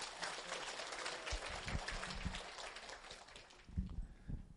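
An audience claps their hands in a dense, steady patter of overlapping claps that continues for several seconds, softening slightly toward the end with a few sharper claps standing out.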